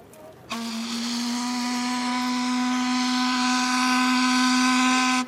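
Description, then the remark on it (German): The steam whistle of the steamship Alexandra in Flensburg, with technology over 100 years old, is tested by its crew: one long, loud blast of about five seconds, a steady low-pitched tone rich in overtones, with a hiss of steam underneath. No one speaks. “Die Crew des Dampfers Alexandra testet regelmäßig die mehr als 100 Jahre alte Technik. Und das auch schon mal lautstark.”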